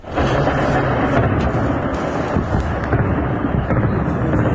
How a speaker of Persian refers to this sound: زبانه های آتش و شلیک ضد هوایی، تصاویری که در شبکه های اجتماعی از حملات هوایی گسترده بامداد جمعه در حومه شهر حلب سوریه منتشر شده است. حملاتی که از آن به عنوان یکی از گسترده ترین ها در نوع خود نام برده می شود.